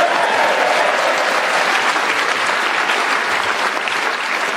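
round of applause

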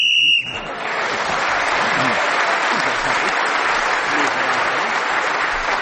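game show whistle blowing

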